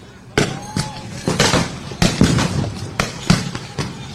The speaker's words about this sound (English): They're firing some kinds of munitions there into the crowd. They are firing tear gas. Yep. Now they're firing tear gas canisters into the crowd.